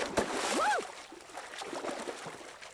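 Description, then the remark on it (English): A woman in a dress dives into a swimming pool, hitting the water with a sharp splash, followed by a short rising-and-falling vocal cry and a couple of seconds of churning, sloshing water. “Oh God, and here I go into the pool.”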